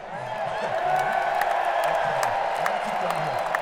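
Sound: audience cheering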